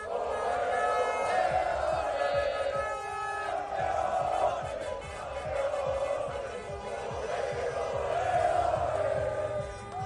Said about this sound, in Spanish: Gritos y celebración en diferentes zonas de Santander, que fue la celebración más multitudinaria